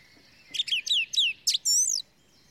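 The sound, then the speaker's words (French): A song thrush sings clearly, repeating a bright whistled phrase three times before switching to a quick burst and a ringing, fluting note. No voices. “C'est une grive musicienne.”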